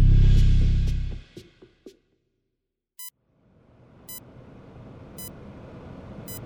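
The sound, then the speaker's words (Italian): An electrocardiograph in a hospital in Como beeps at a steady pace one evening in 2004, monitoring a father after a heart attack, four short electronic tones about a second apart, rising over a low wash of background hiss after a loud rumbling start. “Un elettrocardiografo emette i suoi beep a cadenza regolare.”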